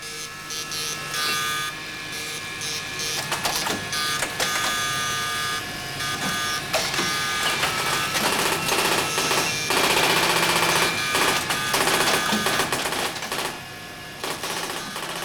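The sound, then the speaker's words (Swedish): A line printer chatters in rapid, rattling bursts that come and go over a steady hum of rectifiers and fans, with sharp mechanical clatter running almost the whole time and no voices. “Ett knatter från radskrivaren överröstar då och då bruset från likriktare och fläktar.”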